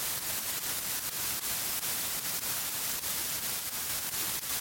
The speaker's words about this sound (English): It's a mobile phone, for sure, it's a mobile phone. The noise is in my head, not in my ears. It's to the upper right side, inside, constant, like an electrical interference. Pure hiss, mobile hiss, loud, 3 or 4 meters away, loud.